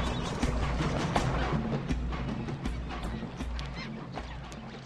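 A dense, chaotic chorus of honking flamingos fills the scene during a predator attack, loud and continuous, with sharp calls rising over a constant low rumble and scuffling commotion.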